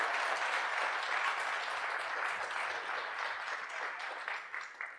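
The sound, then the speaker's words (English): A church audience applauds steadily for a couple who got engaged last week, many hands clapping in a dense, even wash of sound that stays loud throughout and eases slightly toward the end. No one speaks over it. “They did get a round of applause and Clockey for that right now.”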